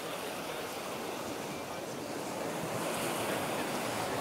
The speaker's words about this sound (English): And please, while you sit on your couch or dance in your living room, imagine being on a beautiful beach. We have ocean sounds.